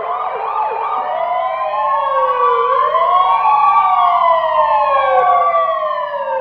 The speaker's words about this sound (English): And that the siren, I asked them to turn the siren off because it was bugging me.